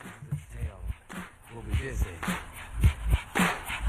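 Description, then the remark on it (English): A bouncy musical jingle built from dog barks, short yelps landing on the beat in a steady rhythm, with bright percussive hits and a sustained tone running underneath. “These are clapping dogs, rhythmic dogs, harmonic dogs, house dogs, dogs, dogs of the world unite, dancing dogs.”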